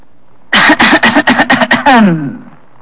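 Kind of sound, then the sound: human body sound, throat clearing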